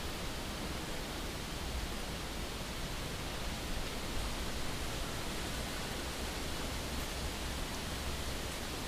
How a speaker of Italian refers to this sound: Faggi che accolgono il visitatore così. Con il sospiro del leggero vento le chiome frusciano e qualche tronco scricchiola per l'ondeggiare dei rami.